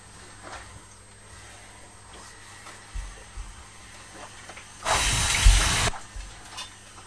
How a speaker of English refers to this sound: Can you hear the steam iron? Yes. Is that what it's saying? Is it hot?